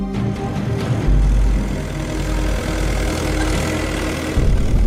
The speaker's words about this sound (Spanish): Lo que hizo fue montarse en su tractor y estar por el exterior, pues nada, pegando acelerones para hacer ruido y molestar lo más posible la ceremonia y a los asistentes.